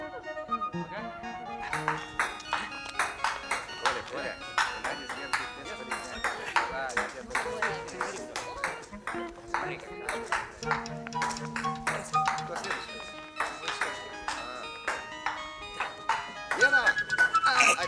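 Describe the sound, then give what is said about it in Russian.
A table tennis ball clicks sharply back and forth in a quick, steady rally, light bright taps continuing for the whole stretch while voices and tonal background sounds murmur underneath. “Я мячик разыграл, подача наша.”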